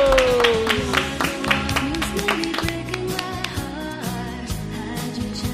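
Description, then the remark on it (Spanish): An audience claps steadily for a choir for several seconds, a dense patter of many hands, with sustained musical tones and a falling pitch sweep underneath the applause. “Un aplauso para este coro magnífico y maravilloso.”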